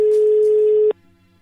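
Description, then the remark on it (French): A telephone ringing tone sounds as a radio host's call to a listener goes through: one steady, loud electronic beep lasting just under a second, then cutting off abruptly into quiet line hiss. “ça me touche de t'avoir au téléphone. C'est vrai, je t'appelle aujourd'hui pour Radio Maritime”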